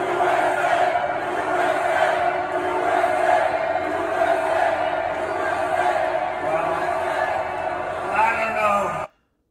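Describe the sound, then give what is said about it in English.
A large crowd at a Trump rally roars and cheers without a break, a dense wall of shouting voices with scattered whoops and bellows, staying loud for about nine seconds before cutting off abruptly. “can we take a look at a Trump crowd? You tell me what difference you see. Let's take a listen.”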